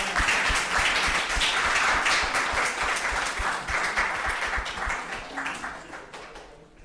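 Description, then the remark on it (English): A crowd applauds steadily, a dense wash of many hands clapping at once that holds strong for several seconds before gradually thinning and fading out. “So I think they deserve some applause.”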